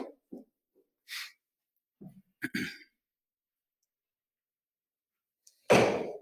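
A few soft shuffling knocks and rustles in a quiet room, then a door swings shut with a single loud, close thud near the end.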